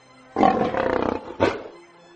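A loud lion roar with a long rumbling first burst, then a shorter second growl, standing alone with no talking.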